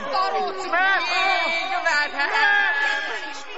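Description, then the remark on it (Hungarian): An agitated crowd of widows clamors, many overlapping voices shouting and calling out at once in a dense, continuous babble that stays loud throughout. “Bizony, így tuszkolt bennünket a királynő elé az özvegyek egyre gyarapodó tömege.”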